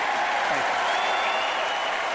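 An audience claps and cheers steadily for what a Republican speaker has just said, a dense wash of applause at a sustained loud level with a few voices rising through it.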